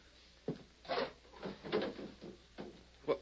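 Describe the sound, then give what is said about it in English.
A wooden table drawer is pulled open with a series of short scraping clunks and rattles, uneven in rhythm, with no voices. “take a look at that table drawer.”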